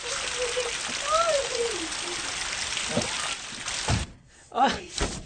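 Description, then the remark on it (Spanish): Heavy rain pours in a steady, dense hiss, with a few dull thuds and splashes. A brief high, wavering cry and short vocal sounds rise over it near the end. “¡Qué fuerte está lloviendo”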